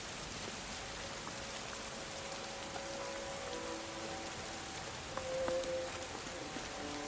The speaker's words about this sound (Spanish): Gracias a la llegada de tu hijo está lloviendo en Padán.